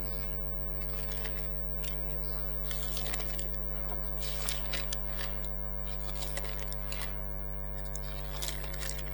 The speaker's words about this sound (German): So fantastisch, wenn man so in der Bibel so blättern kann. Ich tue das so gern. Habt ihr das gesehen?